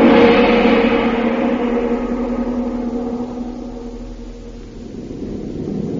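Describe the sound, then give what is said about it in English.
A steady, loud airplane engine drone heard inside the bomb bay of a stolen enemy plane, a dense rumbling roar with a constant hum that fades slightly and then swells again, with no voices. “Now, back to the bomb bay of a stolen enemy plane and Jungle Jim.”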